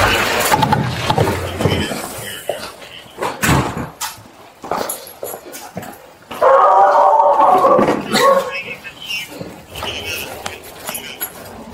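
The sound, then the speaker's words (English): A homeowner's dogs, shut away, bark in a run of sharp, uneven bursts, then one breaks into a sustained, wavering howl before more scattered barks. The sound is loud. “You're more than welcome to check my backyard. My dogs are put up.”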